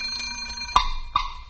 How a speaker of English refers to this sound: When the alarm goes off, they start off right down the line.